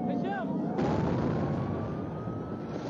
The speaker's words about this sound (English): A rocket lands close to Mr. Arafat's Ramallah office.